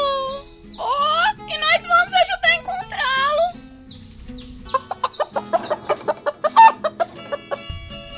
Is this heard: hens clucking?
yes